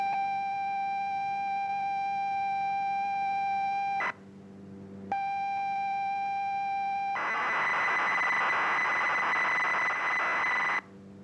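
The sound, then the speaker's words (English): A steady, piercing electronic tone plays, cuts out briefly, returns, then breaks into a harsh, buzzing screech of computer program data tones, broadcast for listeners to record onto cassette and play into their computers, loud and without any voices. “Across the county, dozens of people had captured these mysterious tones onto a cassette, played that cassette into their computer, and then on their screen.”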